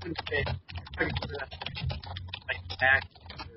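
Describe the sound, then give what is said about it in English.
Rapid clattering keystrokes on a loud computer keyboard, fairly loud, tapping in an uneven stream while a voice talks over them. “My keyboard is very loud.”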